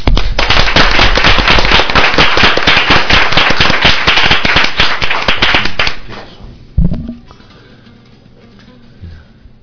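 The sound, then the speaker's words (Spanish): An audience claps loudly and steadily for about six seconds to welcome visiting guests on 4 November 2010. The applause is dense and overlapping and fades out, followed by a quieter moment with a few faint sounds. “Hoy, 4 de noviembre del 2010, tenemos unas personas que nos acompañan y me gustaría que les diéramos un gran aplauso.”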